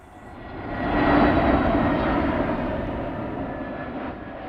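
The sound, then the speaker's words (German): An airplane roars past at Waltersdorf, Brandenburg, beside the runway of Berlin's BER airport, a broad engine rumble swelling quickly, peaking after about a second, then holding steady and easing only slightly, with a faint high whine running through it. No voices. “Das kleine Brandenburger Örtchen liegt im Berliner Speckgürtel und direkt an der Start- und Landebahn des Flughafens BER.”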